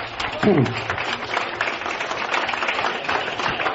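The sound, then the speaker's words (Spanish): A crowd claps steadily for a few seconds in encouragement for a veterinary adviser who will preside over the bullfight this year. It is a dense, even patter of many hands, with a voice briefly audible near the start. “Un aplauso de ánimo para”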